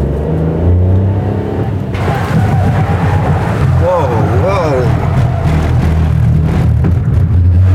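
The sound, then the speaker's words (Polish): A car engine drones loudly from inside the vehicle as it drives at 60 km/h, rising in pitch before a sudden rush of road and water spray noise as it brakes hard while steering around water; a man exclaims excitedly over the steady roar. “Nasza próba będzie polegała na tym, że z prędkości 60 km na godzinę będziemy musieli zatrzymać ten samochód, ale tym razem tą wodę będziemy musieli ominąć podczas hamowania.”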